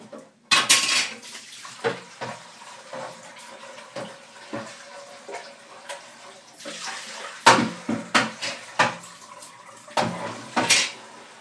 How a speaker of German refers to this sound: Das Wasser noch schnell rausschütten. Die Tassen wegtun.